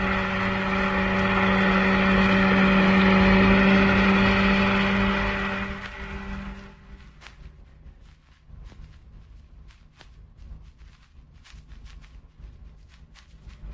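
A heavy truck engine drones loudly and steadily while driving, then winds down and stops alongside a ship, leaving a quiet background with scattered light clicks and knocks.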